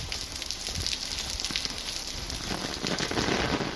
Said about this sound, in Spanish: Es el sonido de la tormenta. La borrasca Gabriel la mantiene en alerta naranja a casi la totalidad de la región y ha dejado tormentas importantes en distintos puntos de la comunidad.